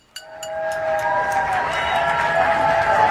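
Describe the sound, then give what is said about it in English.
A crowd outdoors in Atlanta, Georgia claps, bangs pots and howls in a nightly tribute to healthcare workers. It opens with a few sharp metallic bangs and ringing tones, then swells into a loud, steady roar of mixed clapping and shouting. “thousands clap, bang pots, and howl each night to thank and honor the healthcare workers risking their lives each day.”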